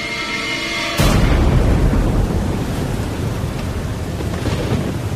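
A sudden loud crack of thunder from an approaching storm bursts in after a second, then rolls on as a heavy, sustained rumble mixed with the hiss of rain.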